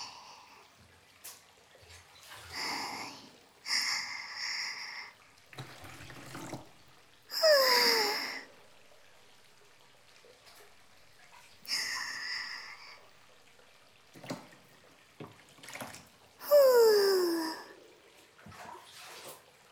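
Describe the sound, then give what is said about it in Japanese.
Hot water sloshes and splashes in a washbasin in several short bursts separated by quiet pauses, with faint squeaky tones during some of the louder splashes. “動かしすぎちゃったけん、洗面器ずいぶんお湯が少なくなっちゃったとね。”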